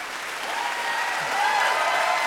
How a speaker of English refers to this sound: You can applaud those judges. And that is not a normal thing for retired judges to wade in to a controversy like this.